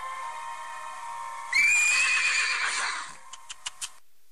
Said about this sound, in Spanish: Al llegar a una esquina, el caballo relinchó.